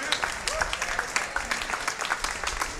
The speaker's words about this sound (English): Oh, a few hand claps on that.